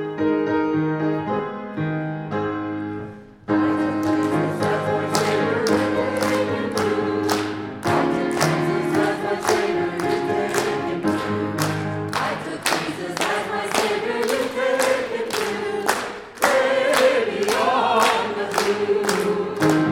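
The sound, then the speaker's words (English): After a few seconds of sustained keyboard chords, an audience starts clapping in a steady, even beat along with the second verse of a sung hymn, the many hands blending into loud, regular claps over the music. “So we're going to sing it again with the second verse, and we're going to clap too.”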